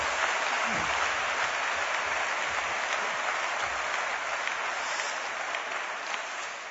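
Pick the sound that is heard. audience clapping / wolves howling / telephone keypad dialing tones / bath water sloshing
audience clapping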